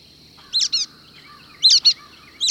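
Brown-headed nuthatches foraging in Apalachicola National Forest call: quick paired squeaky notes in three short bursts, clear, over a steady high insect drone and a faint low rumble.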